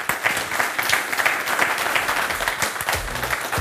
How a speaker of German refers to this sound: Bitte nehmen Sie Platz. Den Applaus haben Sie ja schon genossen, oder? Schaffen vielleicht noch einen.